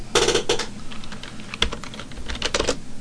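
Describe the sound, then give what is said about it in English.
Rapid, uneven clatter of typing on a computer keyboard, with bursts of sharp key clicks and a few heavier thumps, fairly loud and with no talking. “Yeah, I can't type.”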